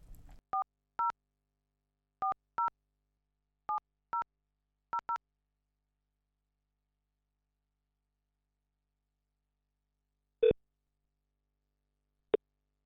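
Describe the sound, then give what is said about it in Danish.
Pairs of short electronic telephone beeps repeat at steady intervals, four double tones in a row, followed after a pause by two sharper clicks or blips. Clear and isolated, with no talking. “den sagesløse opringer gennem et sandt inferno af stemmer, forklaringer, tonefald, lydniveauer og ikke mindst musik ledsaget af de kendte toner dut-dut.”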